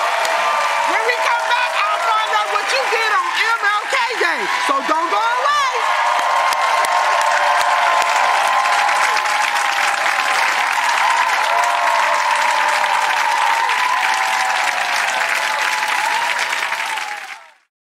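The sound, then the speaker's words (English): A crowd applauds and cheers steadily for about seventeen seconds, with dense clapping and shouts and whoops early on, the noise holding loud before cutting off at the end. “Y'all give it up for ….”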